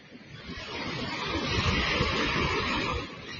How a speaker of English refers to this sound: Allow the waves to cleanse your soul.